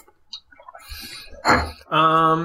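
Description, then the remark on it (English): A bird calls outdoors in a couple of loud bursts, the last a sustained harmonic cry, with faint rustling and scattered chirps before it. “You head up this little path and you get to it's perfect with the bird.”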